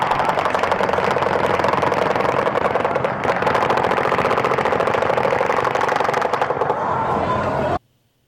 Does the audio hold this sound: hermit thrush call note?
no